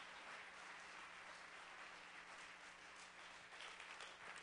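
A crowd claps steadily together as a hand clap to the Lord, a dense, continuous wash of many hands applauding for several seconds, with no voices standing out.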